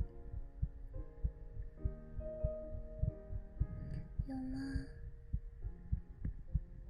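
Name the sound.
heartbeat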